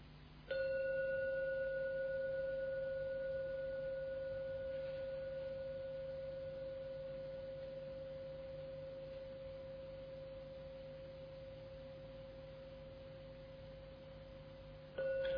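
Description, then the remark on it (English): A gong, to be rung three times, is struck once and rings with steady, pure humming overtones that slowly fade over many seconds, followed by a fresh strike right at the end. No one speaks. “Listen and drink every sound from the gong.”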